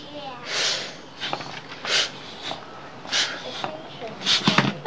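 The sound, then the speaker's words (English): A hand pump puffs air in a series of short, breathy whooshes, irregular but repeating roughly every half second to second, moderately loud, sounding much like someone breathing. “This pump is breathing.”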